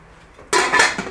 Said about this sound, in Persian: خب حالا ما در قابلمه رو میبندیم.